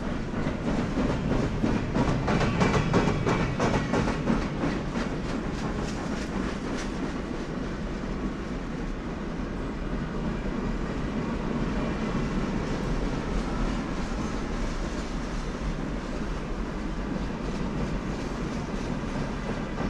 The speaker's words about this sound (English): And just like that, the train car carrying an unspecified liquid and an increasingly nervous man sped on down its track.